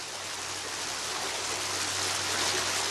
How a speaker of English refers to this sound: I think it's one of the most delightful things about Rome, the way that water is everywhere. Everywhere you turn, there's a water spigot or just a beautiful fountain.